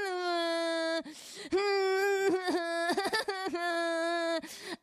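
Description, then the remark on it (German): A woman wails loudly, long drawn-out sobbing cries broken by short gasping catches of breath, with no other sounds around her. “Frau Cosinus, Sie brauchen doch nicht zu weinen.”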